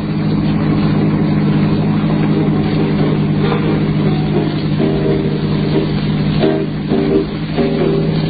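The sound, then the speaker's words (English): A car engine drones steadily at a low pitch while driving across the Kansas plains past midnight in heavy ground fog, holding an even loudness throughout, with faint higher tonal whines rising briefly near the end. No voices are heard. “Sometime past midnight, I ran into a heavy ground fog that swirled around the car like cotton batting.”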